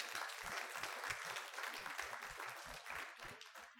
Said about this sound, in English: Can you give the Lord a big clap for him, please? Praise God.